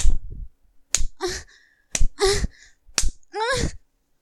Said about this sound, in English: Now you turn up the pain. You spank me harder now.